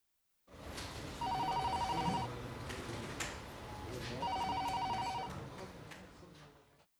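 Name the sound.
telephone ringing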